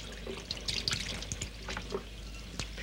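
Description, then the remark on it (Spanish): Two sisters wash dishes at home: running water with a steady wet splash and small clinks and clatters of dishes scattered throughout, fairly quiet, with no voices. “En la casa, las dos hermanas friegan los platos.”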